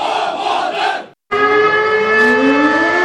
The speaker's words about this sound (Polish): Spowity ciemnością półwysep obudziły syreny alarmowe, a chwilę potem zabrzmiał tu hymn.